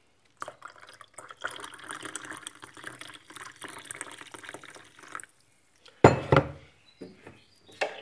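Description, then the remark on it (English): Coffee is poured into two cups in a steady, splashing stream lasting several seconds, then stops; a sharp ceramic clunk follows, with a few lighter clatters of cups and dishes. “All right, coffee for you. Coffee for me.”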